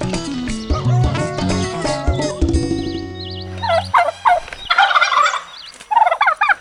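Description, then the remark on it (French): Loud turkey gobbling: a rapid, throaty warbling call rolls out in several quick bursts, followed by sharper, higher yelps and gobbles in short repeated phrases. “Vous avez trouvé, suspense, suspense, c'était bien évidemment le dindon.”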